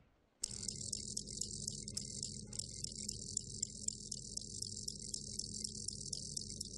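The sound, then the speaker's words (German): A male cricket's calling song to attract a female starts abruptly and carries on as a loud, high-pitched pulsing trill, steady and unbroken, over a faint low rumble in the background. “So hört sich der Lockgesang der männlichen Grille an, wenn es ein Weibchen anlocken will.”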